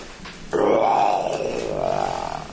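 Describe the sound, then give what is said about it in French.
A lion lets out one long, loud roar that starts abruptly and rumbles steadily for about two seconds, close and prominent, with no talking over it. “Et où est-ce qu'il y a un lion qui rugit dans la Bible ?”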